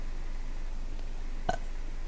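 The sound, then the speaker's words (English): A single short, soft burp pops up once midway through an otherwise quiet stretch with faint background hiss, brief, with no talking around it. “I burped.”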